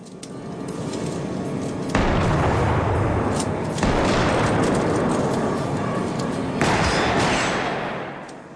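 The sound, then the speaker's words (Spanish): Loud gunfire in a dense, roaring mix, with heavy shots hitting at three points and each leaving a sustained rumbling wash before fading near the end, as Andrea, golden handcuffs in hand, loses his gun and is shot in a corridor at a stadium. No one speaks. “Kent baja corriendo un tramo de escaleras hasta un pasillo donde se repite la escena en que Andrea, esposas doradas en mano, pierde el arma y recibe un disparo.”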